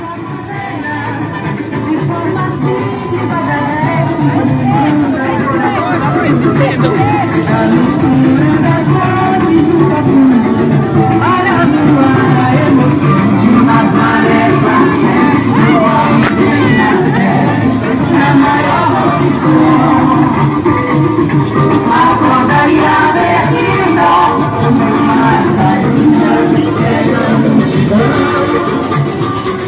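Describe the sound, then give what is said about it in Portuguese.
A festival crowd fills the streets near the Teatro da Paz in Belém do Pará, Brazil, at the start of the Círio, with a trio elétrico present, making a loud, dense hubbub of many overlapping voices, steady and unbroken for the whole half minute, with a murky low rumble underneath. “Em Belém do Pará, as ruas próximas ao Teatro da Paz estavam tomadas pelo começo do Alto do Círio e até trio elétrico.”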